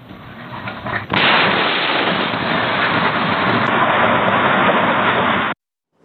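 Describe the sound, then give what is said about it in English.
After a second of low rumbling, a massive house explosion outside Pittsburgh booms in suddenly, followed by several seconds of loud, sustained roaring noise that cuts off abruptly, captured on a tinny outdoor Ring doorbell camera a few doors down. “Ring doorbell video from a few doors down captured the moments of that blast.”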